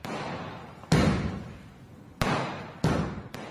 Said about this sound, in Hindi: ये आवाज़ें इंडिया के शहर दिल्ली में दिवाली के मौके पर चलाए जाने वाले पटाखों और आतिशबाजी की है।